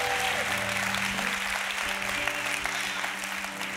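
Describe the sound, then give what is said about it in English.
A crowd claps steadily and loudly in appreciation of people working on the front lines, with scattered whistles and shouts rising over the dense applause throughout. “So if you can shout, if you can whistle, if you can clap, come on, let's do it right here.”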